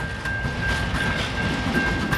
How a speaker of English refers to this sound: This train is headed to the Bunbury port.